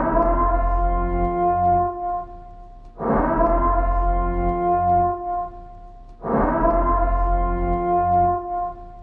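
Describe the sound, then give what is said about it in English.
A loud, deep, droning warning siren, the siren from The Purge films, used by police in Louisiana as a COVID-19 curfew warning, sounds in three long, repeating blasts, each swelling in with a rich, horn-like tone that hangs and fades before the next begins. No one speaks. “Next, we've got police in Louisiana apologize after using the purge siren for COVID-19 curfew warning.”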